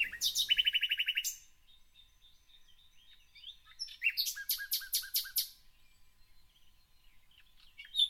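Birds chirp and sing in bright, rapid trills: a quick burst at the start, then a second run of repeated notes midway, with soft scattered tweets between. No talking, just birdsong.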